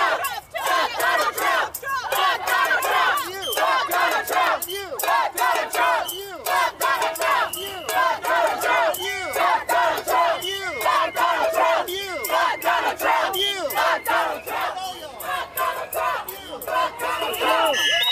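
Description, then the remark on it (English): A protest crowd at night in front of the DHS facility off Tivola Road in Charlotte chants and shouts in unison, loud, rhythmic bursts of many raised voices repeating steadily for the whole stretch with no pause. “This is in front of the DHS facility in Charlotte last night.”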